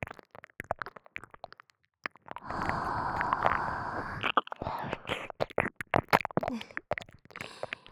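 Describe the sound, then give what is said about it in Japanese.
A single long, warm breath is exhaled steadily into the ear for about two seconds, framed by soft, irregular wet clicks and mouth noises before and after. “お耳に熱い吐息を吐くと、お耳がゾクゾクしますよね。”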